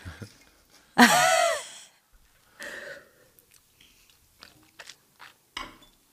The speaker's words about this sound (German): Und wenn ich den so lange im Mund halte. Ein bisschen schlürfen,